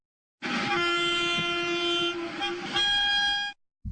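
A train horn blares in one long, steady blast lasting about three seconds, loud and close over a low rumbling undertone, its pitch shifting slightly near the end. No one speaks.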